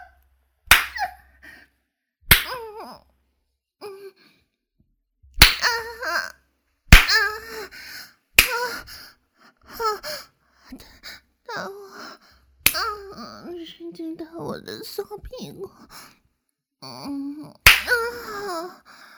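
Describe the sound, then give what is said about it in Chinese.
About seven loud, sharp smacks of a hand striking bare buttocks while the person lies across someone's lap, spaced irregularly a second or more apart, with breathy vocal sounds and moans filling the gaps between strikes. “主人，好吧，主人的手打到我的屁股，好舒服啊！”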